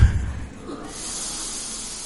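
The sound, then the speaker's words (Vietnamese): A long, breathy hiss of air drawn in through pursed lips, demonstrated in a breathing practice for others to imitate, steady for over a second after a brief low thump at the start. “Hít chu cái mỏ lên cho người ta thấy, để người ta bắt chước.”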